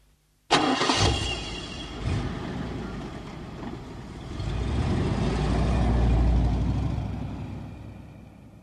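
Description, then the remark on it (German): A car engine cranks and catches with a sudden burst, then settles into a steady rumble that swells as the vehicle pulls away and drives, loud, with no talking. “Wieso nicht, das erzähle ich Ihnen gleich im Auto.”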